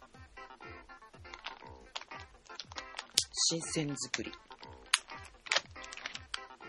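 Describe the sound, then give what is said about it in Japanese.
The crinkly plastic packaging of a pet snack rustles in a quick, irregular run of crackles and crunches, continuing alongside a person speaking briefly. “ガサガサ言っちゃったから、よこせ。”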